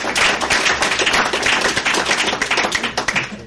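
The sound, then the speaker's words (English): A room full of people applauds steadily to thank the crew who took care of the dishes, a dense wash of overlapping claps sustained at a lively, even intensity with no voices rising above it. “Give them a round of applause for helping out.”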